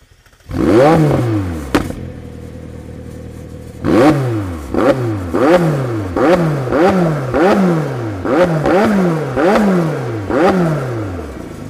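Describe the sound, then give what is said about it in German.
A McLaren 720S engine bursts to life with a sharp bang from its special start procedure, settles into a rumbling idle, then roars through a rapid series of about a dozen throttle blips, each rev rising and falling in pitch. “heute dreht sich alles um den McLaren 720S”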